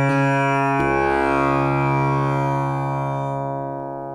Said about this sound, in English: So this is a tambura, and here's what it sounds like. And it's, you know, it's long strings that vibrate. And the magic of the instrument, the buzzing thing, is the bridge.